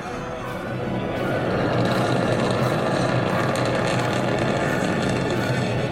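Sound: rocket launch rumble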